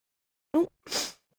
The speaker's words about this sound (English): I was going to sneeze.